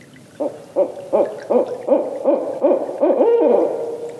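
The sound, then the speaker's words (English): A barred owl calls nearby in a quick, steady run of about nine throaty hoots that swells into a longer wavering note at the end. The calls are loud and clear, and no one speaks. “The sounds you've been hearing of the barred owls calling were given to us to use by the Macaulay Library at the Cornell Lab of Ornithology.”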